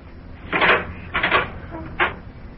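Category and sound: household object, kitchen door opening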